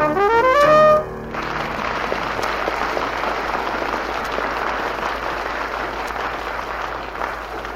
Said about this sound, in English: We will present each of the five acts, and we would like for you to applaud for the one you thought best of the five. And then we will award the audience prize.